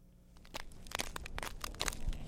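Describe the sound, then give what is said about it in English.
A hydrologist's footsteps shuffle across patches of vivid blue glacier ice along a silty channel at the edge of Mendenhall Glacier near Juneau, a quick, uneven run of gritty crunches and scrapes, fairly quiet, with no voices. “is shuffling across patches of vivid blue ice.”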